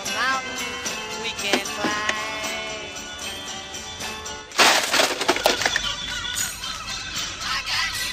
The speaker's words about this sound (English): Bill Murray in the movie Groundhog Day registering his objection to circularity by smashing the radio that wakes him every morning to a day that is exactly like the day before. The radio will be back tomorrow, though, playing the same song.